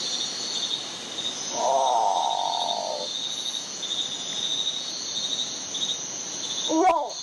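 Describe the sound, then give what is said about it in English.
A great potoo gives a harsh, guttural, moaning growl lasting over a second, followed later by a short rough burst, all over a steady, shrill chorus of insects. “This is called a great patu.”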